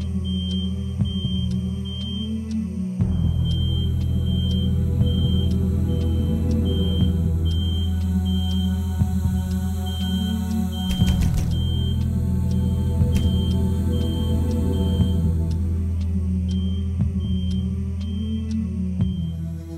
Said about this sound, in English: The smoke alarm was in another unit